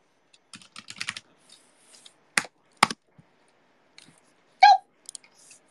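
Keyboard typing in uneven bursts: a quick cluster of clicks, then a couple of sharp louder key strikes and scattered taps, with no talking.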